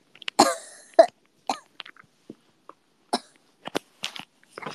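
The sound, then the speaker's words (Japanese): A choking coughing fit: a harsh burst of coughs up close, followed by a series of smaller, scattered coughs and throat-clearing sounds spread over several seconds, with no talking. “むせてる。”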